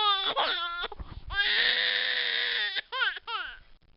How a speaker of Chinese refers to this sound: 第二段视频里呢，亲子园老师还灌孩子吃芥末，孩子一个个都被辣哭了，不断的摇头，可是老师依然强行把芥末灌到孩子嘴里，孩子吃完之后就嚎啕大哭，简直就是隔着屏幕我都能感觉到孩子哭的那叫一个伤心欲绝呀。